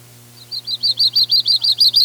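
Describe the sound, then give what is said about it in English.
A yellow-rumped warbler sings a steady, high-pitched trill of about nine quick, evenly spaced notes, clear, over a faint low hum. “The problem with their song is that it's a nondescript trill, like a junco or a chipping sparrow might sound after root canal surgery.”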